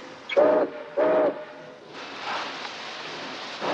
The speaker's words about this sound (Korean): 제크의 화물열차 19호는 포틀란드를 향해 다시 출발하고 넘버원은 자신이 다시 이 열차에 탄다고 예고합니다.